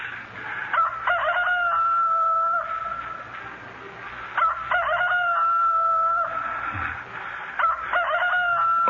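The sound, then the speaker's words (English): A rooster crows three times in succession, each call a loud, drawn-out cock-a-doodle-doo with a rising start and sustained tail, against a faint low background hum. “My heart's splitting as yours did to hear the cock crow.”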